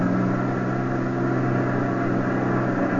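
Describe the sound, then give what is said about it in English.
A truck engine rumbles steadily at low speed, a continuous droning hum with no change in pace or loudness and no voices: a truck in a convoy pulling slowly through a guarded front gate. “Just as we caught up with the Jerry convoy, the truck ahead pulled through the front gate.”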